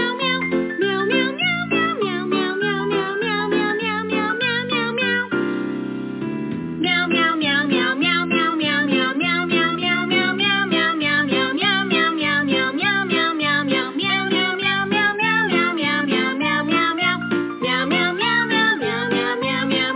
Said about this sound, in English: And, of course, that is the Meow Mix jingle.